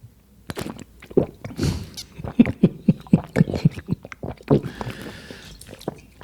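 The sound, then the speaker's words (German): A deliberate performance of loud, wet chewing and smacking mouth noises in a steady rhythm of quick squelches, with a swallow or two mixed in and no talking over them. “Jetzt folgt eine Darbietung für Misophoniker.”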